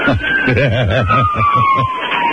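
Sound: police car siren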